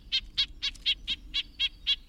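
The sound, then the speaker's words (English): A red-breasted nuthatch gives a rapid, steady series of about nine short nasal "yank" calls, high and slightly buzzy, evenly spaced over a faint low background hum with no talking. “Here's the smaller red-breasted nuthatch's nasal yank, yank.”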